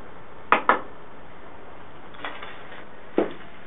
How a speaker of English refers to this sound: Can you make a noise for us? Can you knock on something?